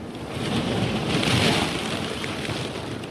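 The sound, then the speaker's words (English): The icebreaker Healy grinds through thick sea ice on a bright spring day, backing and ramming every 100 feet, building-sized slabs folding and crashing on both sides of the hull: a dense, continuous roar of crunching and rushing noise that swells slightly midway, with no voices and no distinct pauses. “Building-sized slabs of ice fold and crash on both sides of the hull.”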